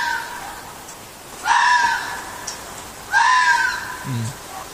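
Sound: fox screaming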